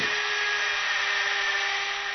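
A dentist's drill whirs steadily, a sustained high-pitched whine with a constant buzzing hum beneath it, unbroken and even in loudness for the full couple of seconds, as Dr. Spange drills on a sedated bottle genie lying in his dentist's chair.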